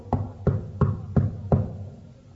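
Five firm knocks on a door, evenly spaced at a steady pace, solid with a low wooden thud, then the last one fades into quiet. No one speaks.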